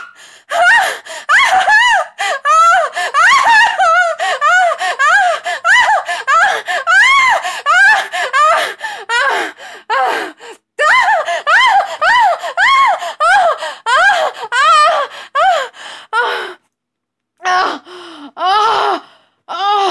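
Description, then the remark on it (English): A person screams loudly in a long, almost unbroken run of rising and falling shrieks, pauses briefly, then lets out a few more sharp screams near the end. “You made me scream.”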